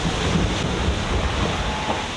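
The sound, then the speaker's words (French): A boat at sea, about 2,000 miles from the finish of a 2,800-mile passage, slams into waves, water rushing, streaming and splashing against the hull in a dense, steady low roar with no clear pauses and no voices. “ça claque, ça dégouline de flotte, ça tape dans la vague.”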